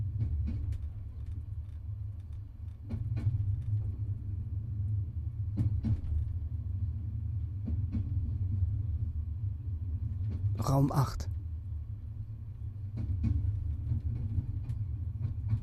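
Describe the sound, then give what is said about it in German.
A steady low rumble inside a TGV high-speed train travelling at night from Marseille to Strasbourg, with faint rhythmic clicks and a brief bright noise burst midway; a voice briefly murmurs over the continuous drone. “Ein Zug unterwegs. Endlich mal was Friedliches. Nachtfahrt mit dem TGV.”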